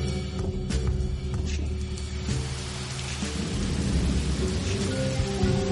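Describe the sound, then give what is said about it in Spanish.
Light rain begins to drizzle on a dark night, pattering and hissing steadily throughout, joined by a deep, rolling rumble like thunder that grows slightly fuller toward the end. No voices. “Bueno, vaya noche más desapacible, qué oscuridad, y parece que además comienza a lloviznar.”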